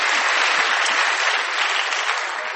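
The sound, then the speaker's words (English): A church audience claps for Jesus in a dense, steady burst of applause, many hands blending into a continuous loud wash that holds evenly and tapers only slightly toward the end. “Clap for Jesus.”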